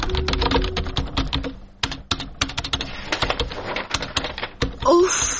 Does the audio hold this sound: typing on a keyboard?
yes